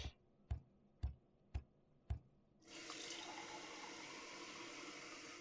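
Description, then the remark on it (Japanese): Five sharp, evenly spaced clicks, like something tapping on a sink, then a tap turns on and water runs in a steady, hissing stream while teeth are brushed before bed. No one speaks. “その前に歯磨き、歯磨き。”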